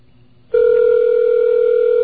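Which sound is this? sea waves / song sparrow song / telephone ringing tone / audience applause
telephone ringing tone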